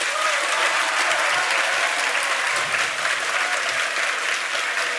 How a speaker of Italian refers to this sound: Vai pure, un grosso applauso ancora.